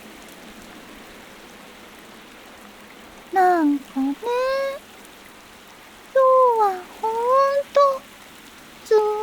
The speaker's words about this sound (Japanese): すごい雨でさ、神様の業務も、まあ、おしまい。